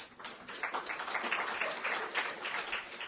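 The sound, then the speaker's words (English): A crowd applauds with dense, steady clapping that holds a fairly even loudness for a few seconds, with no voices standing out. “and we thank you and we applaud all you do, so thank you.”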